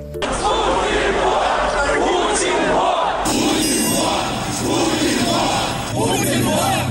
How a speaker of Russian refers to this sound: Уже в 2011 году, во время протестов против фальсификации на выборах, Алексей Навальный придумал кричалку «Путин вор», которую радостно поддержал народ на митинге.